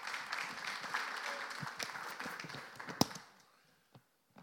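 A crowd claps for a volunteer who has agreed to taste-test chocolate digestives and Coca-Cola, a dense patter of applause that holds steady for about three seconds, then quickly fades out, leaving a couple of isolated claps.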